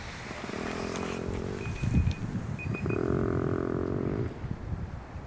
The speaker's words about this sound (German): Nochmal Elch. Ein schnarchender Elch. So klingt ein schlafender Elch.